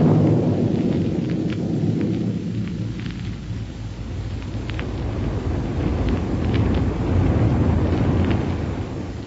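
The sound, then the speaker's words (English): Buck and Wilma's rocket plane roars steadily in flight on its way to Dr. Huer's laboratory in Niagara, a loud, continuous low rumble with a hissing, crackly edge that holds for the whole stretch, with no voices. “But let's first pick up Buck and Wilma aboard their rocket plane as it roars along on its way to Dr.”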